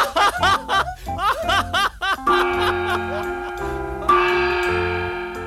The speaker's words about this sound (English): What's that? What's what? Those two bells. Two bells? Oh, no, it's 2 o'clock. The ship, they'll leave without us.